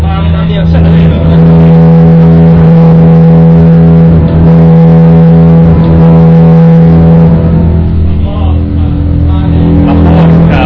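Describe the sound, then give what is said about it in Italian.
A car engine roars loudly for the whole stretch, a deep, steady droning hum with slight swells in pitch as it revs, with indistinct voices faintly underneath. “La porca della macchina. È pazzesco. La performance qua sotto.”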